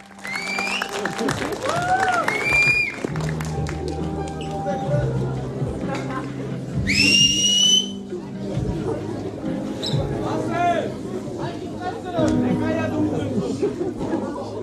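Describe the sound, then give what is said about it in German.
Rowdy youths in a cinema shout and insult one another during a film, chattering over each other, with loud whooping yells early on and a shrill squeal midway, over steady crowd babble throughout. “Und wir können euch jetzt mal gleich einen Sound einspielen, wie das im Kino war.”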